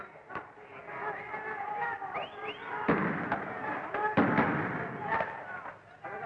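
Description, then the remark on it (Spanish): Several sharp, booming tear gas canister shots fired by police at students throwing bottles and Molotov cocktails, from a documentary on the Cordobazo, go off at irregular intervals, loud, with some firearm shots, over a steady background of crowd noise and shouting voices. “Se escuchan disparos de gases lacrimógenos.”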